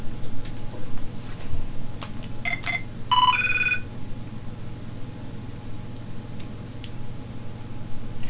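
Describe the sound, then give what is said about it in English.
A mobile phone rings briefly with a short burst of bright electronic chirping tones that stops after about a second, over steady low background hum. “My phone's off again.”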